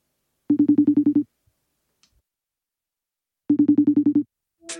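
A telephone call placed to set up an interview: the phone rings twice, each ring a buzzy, rapidly pulsing trill lasting under a second, with a silent gap between them and a brief faint sound at the very end.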